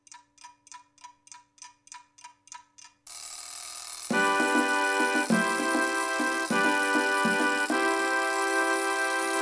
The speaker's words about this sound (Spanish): Sonó el despertador, tengo que ir a la escuela